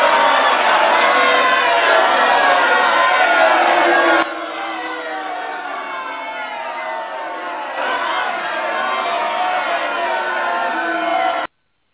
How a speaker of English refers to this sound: I just found out I can download stuff during the show. I went and found a crowd booing, and put it down during the show.